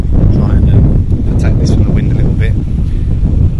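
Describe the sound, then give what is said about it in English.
Strong wind gusts rumble and buffet the microphone continuously, loud, with a few faint higher-pitched chirps breaking through the roar, on a beach at Teymouth on a cloudy, showery day in October 2005. “It's been a bit showery, a bit windy as you can hear.”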